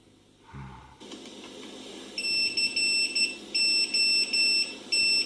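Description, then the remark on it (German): A phone's text message alert plays a shrill electronic tone in several short, rhythmic bursts, fairly loud, after a soft thump at the start. No one speaks. “Ich habe eine SMS gekriegt.”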